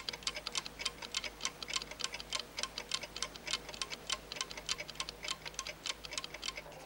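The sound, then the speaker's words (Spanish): Three alarm clocks tick together beside the bed where Pepa lies sleeping, their sharp, bright clicks overlapping into a steady, rapid rhythm that continues without a break. The ticking is fairly soft, and no one speaks. “Junto a ella, tres despertadores.”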